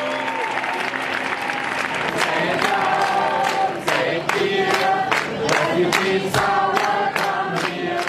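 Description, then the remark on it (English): A large crowd of Germans standing on the platforms of Munich train station claps steadily and loudly, welcoming refugees as they arrive off the trains, with scattered cheers and shouting voices mixed into the dense applause. The clapping stays continuous throughout, sharp claps punching through the roar. “At Munich train station, people stood on the platforms, masses of Germans welcoming these refugees and clapping as they arrived off the trains.”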